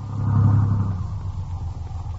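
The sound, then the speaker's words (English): A car engine tries to start, a low, rough rumble that swells over the first second, then continues as a steadier, sputtering drone. No one speaks. “Maybe the car'll start.”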